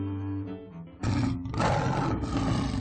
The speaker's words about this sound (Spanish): Se han asustado porque conocen el rugido del león y saben que es peligroso.